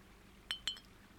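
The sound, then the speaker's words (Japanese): Two bright glass clinks in quick succession, crisp, like glasses of Ramune soda tapped together in a toast on a moonlit night, over a quiet background with no talking. “じゃあ、乾杯。”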